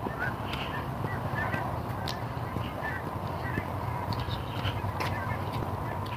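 Faint, scattered honks from a couple of big strings of flying geese come through in short bursts, mostly buried under a steady low rumble of traffic noise that fills the whole scene, on a chilly morning in the low to mid 30s.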